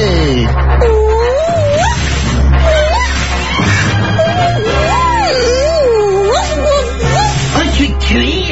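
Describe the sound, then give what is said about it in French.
A human voice, from a person disguised as an animal, imitates a cat, giving a string of drawn-out, wavering meows, repeated several times over a steady low background hum. “Qui va là? Miaou. Miaou. Miaou.”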